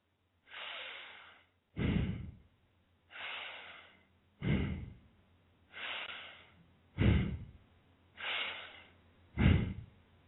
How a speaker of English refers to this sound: Long, deep breathing for 1 minute. The long, deep breathing, as I've been doing and showing you, is audible.